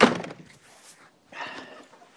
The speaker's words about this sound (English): Shut the door.